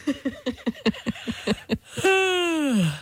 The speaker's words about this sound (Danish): Jeg vil bare høre, om det smitter, når man bare taler om at gabe, når du kan høre gabelydene, men ikke kan se, at folk gaber der.